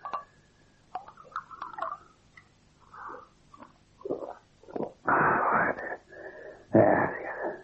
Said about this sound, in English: Slow breathing. Take a grip.